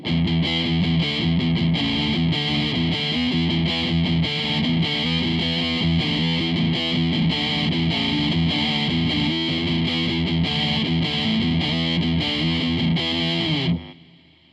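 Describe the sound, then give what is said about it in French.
A heavily distorted electric guitar, through an emulation by the Zengo of a German-made Engel amp, plays loud, sustained chords with a dense, saturated amp tone and rich harmonics, continuing steadily for about fourteen seconds before cutting off abruptly. “Alors, du son énervé par la colère, fabriqué en Allemagne, émulé par la Zengo.”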